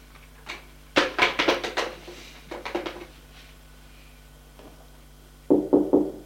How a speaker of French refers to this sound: On frappe à la porte. Entre. La porte s'ouvre.